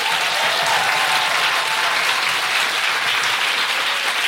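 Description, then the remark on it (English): Sustained audience applause at the Sam Wanamaker during a live show of The Guilty Feminist, a dense, steady wash of many hands clapping at an even, loud level throughout, with no voices standing out. “So before I do that, can I just have a big round of applause to everyone here at the Sam Wanamaker?”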